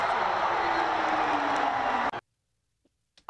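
A loud, dense crowd roar fills roughly two seconds as one sustained wash of noise, then cuts off abruptly into near silence.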